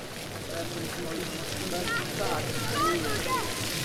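A motorboat roars past with a steady, rushing engine drone and churning water, swelling slightly before fading, with a few faint high chirps above the noise.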